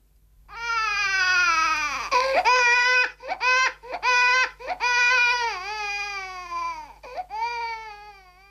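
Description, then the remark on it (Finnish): A newborn baby cries in a series of loud, high-pitched wails, each rising and falling, broken by short gasping pauses between bursts. No one speaks. “Niissä kodeissa, joissa tämä ääni kuuluu, se kantautuu aika usein pahvisesta laatikosta.”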